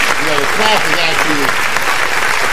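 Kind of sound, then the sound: sound effect, applause sound effect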